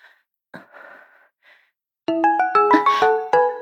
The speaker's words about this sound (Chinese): 哎呀，吓死我了，原来是老公的电话呀。